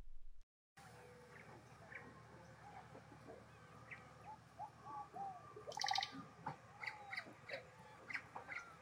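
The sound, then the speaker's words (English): Dense jungle ambience with many birds calling and chirping at once, including squawking parrots and chattering monkeys, some short whistles and a brighter burst of chatter midway, over a steady low background hum. “Resounded all around them, chattering monkeys, squawking parrots, and the rustling of leaves under the feet of unseen creatures.”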